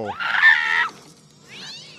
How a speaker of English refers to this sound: They used like the comedy meow, like the like from The Simpsons or something.